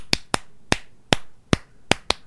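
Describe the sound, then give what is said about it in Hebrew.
A rhythmic pattern of seven sharp hand claps, clapped to show a rhythm from the middle of a song, with some pairs played quickly and others spaced further apart, clear and crisp with no voices. “ועכשיו אני אמחה את הכפיים, ואתם תראו באמצע השיר שזה מאוד השתלב יפה.”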